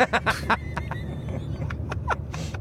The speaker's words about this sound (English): So we are currently, for context, driving from Vacaville back to near Sacramento Airport.